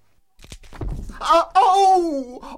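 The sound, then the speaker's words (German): A wooden chair with gnawed legs collapses under a man sitting on it, with a short series of cracking thuds and a crash as he lands on the floor under a table, followed by a drawn-out, wavering vocal groan. “Kaum hatte er sich niedergelassen, brach der Stuhl krachend unter ihm zusammen und Herr Taschenbier landete unsanft auf dem Boden und unter dem Tisch.”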